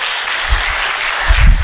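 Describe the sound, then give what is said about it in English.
An audience applauds, a steady wash of many hands clapping that holds evenly throughout, with a few low thumps rising under it near the end. “If we were in a Pentecostal church, you'd be clapping right now.”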